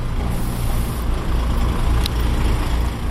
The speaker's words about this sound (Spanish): vamos a los muelles, decenas de camiones cargan la mercancía.